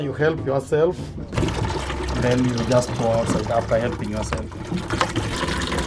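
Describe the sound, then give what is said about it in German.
Water runs steadily from a tap into a canister at a squat-toilet block, supplied from a large external tank, a continuous gushing and splashing that starts after a brief moment of voices and carries on to the end. “Wir haben hier Wasserhähne. Du kommst, erleichterst dich und dann füllst du den Kanister.”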